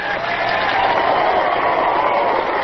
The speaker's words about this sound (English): See, back then, human rights got applause.